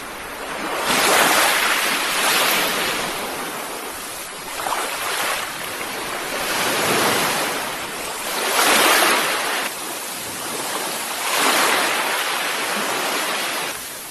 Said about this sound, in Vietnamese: Phía dưới bãi biển, những lợn sóng không ngừng dội vang vào gành đá như sấm sét.